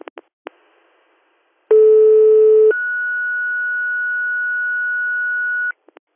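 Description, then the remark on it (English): A couple of sharp clicks, then a loud steady low tone for about a second followed by a higher pure tone held for three seconds, a two-tone radio dispatch alert for an AMR unit, ending in a final click. “Stand by AMR for your tones.”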